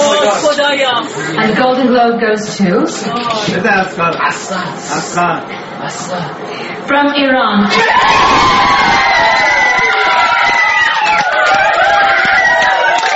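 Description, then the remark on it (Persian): A crowd of Iranians cheers and whoops in celebration of Asghar Farhadi winning the Golden Globe for A Separation, with excited shouting and many overlapping voices, loud throughout; the noise swells into a denser, sustained roar of cheering in the second half. “و این یکی از انبوه نمونه‌های شادی ایرانیان در سراسر دنیا در واکنش به دریافت جایزه اصغر فرهادی است”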